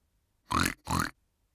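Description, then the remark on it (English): A page-turn cue: two quick pig-like oinks, apparently voiced by a person imitating a pig, loud and close, with a brief gap between them and silence around. “here's the three little pigs with page turn sounds. Every time you hear, turn the page”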